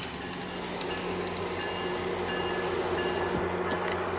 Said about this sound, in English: There's a GO train. You want to hear it? You like hearing the trains, don't you?